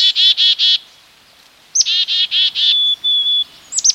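black-capped chickadee calls

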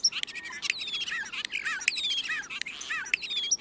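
european starling song

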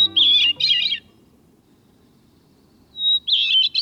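bird song

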